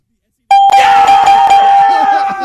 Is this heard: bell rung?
yes